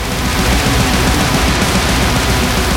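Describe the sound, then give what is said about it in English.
Harsh noise music: a loud, dense wall of crackling static-like interference that roars continuously without pauses, filling the whole spectrum, with no voices present. “It sounds more like Interference than music.”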